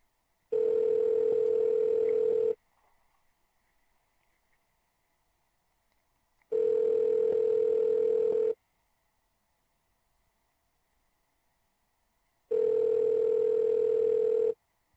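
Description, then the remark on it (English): A telephone ringback tone sounds three times, each steady electronic purr lasting about two seconds with roughly four seconds of silence between rings, clear with no voices. “Pick up the phone, Cobra.”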